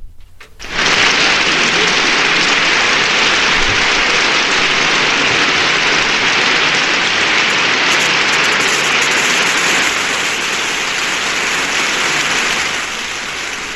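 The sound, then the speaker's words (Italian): Sustained, dense applause from a large audience that starts abruptly and holds at a steady, loud roar of clapping for over twelve seconds, easing off only slightly near the end. No voices are heard. “Non finiscono più questi applausi, non finiscono sono, più.”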